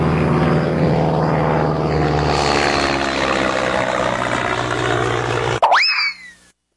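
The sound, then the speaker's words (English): A loud, steady drone with a low propeller-like hum from an airplane landing at Heathrow holds for several seconds, then cuts off abruptly into a brief wobbling, swooping tone before fading out. No one speaks. “Here's the plane.”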